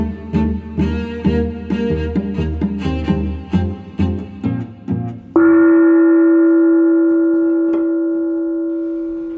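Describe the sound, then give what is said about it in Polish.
The Danutki award gong, made by Jarek Koziara and received by Jan Peszek in Lublin, is struck in a quick, uneven series of ringing hits, then one loud stroke rings out alone, its bright metallic tone sustaining and slowly fading. “Tak brzmi gong Danutki, czyli ta nagroda, którą Jan Peszek dostał w Lublinie.”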